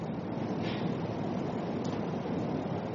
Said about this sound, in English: Sorry, I had it on mute because it was windy, and I didn't want you to blow you out of there.